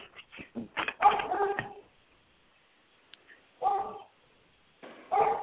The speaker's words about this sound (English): You hear them dogs? Those are Great Danes, if you can hear them. They're the next door neighbors. They're like little mini. They're like little mini ponies trotting through the yard. And when they break loose of the fence, they come charging at you.